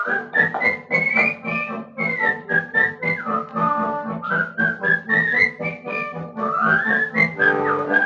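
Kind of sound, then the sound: human body sound, person whistling a tune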